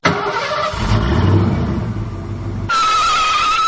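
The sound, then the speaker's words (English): A car engine cranks and starts up during a driving test, then revs with a loud low rumble before settling into a steady, higher-pitched hum, prominent with no talking. “Okay, now you can start your car.”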